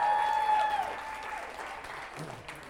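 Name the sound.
audience applause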